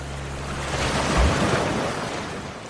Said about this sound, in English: The castle falls to the ground as the tide baptizes every grain of sand, reducing the once mighty structure to nothing more than another dune. The water covers the old pair and drags them out into the depths of Lake Superior.